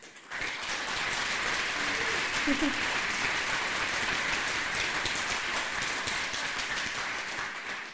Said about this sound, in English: So please give her a huge round of applause.